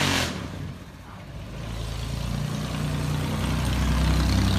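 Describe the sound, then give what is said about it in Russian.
A car with a Mexican flag drives along the street, its engine rumbling in a low drone that grows steadily louder as it approaches and passes by, with no talking over it. “А смотрите, какая машина классная идет.”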